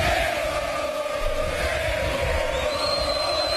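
A large crowd of football fans sings and chants together, a loud, continuous wall of voices holding a steady tone, with no break for the whole stretch. The fans are singing at the hotel door in Argentina for their idol, Maradona, on the day of an Argentine league match against Newell's Old Boys.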